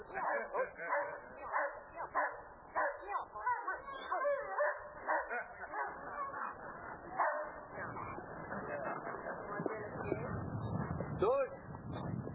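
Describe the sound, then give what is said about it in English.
A dog barks and yelps repeatedly, loud and agitated in rapid bursts, as it catches and holds a running man wearing protective clothing, while people's voices overlap and mix with the commotion throughout. “The dog has him, and if he were not wearing protective clothing, he would be seriously, and I mean seriously, injured.”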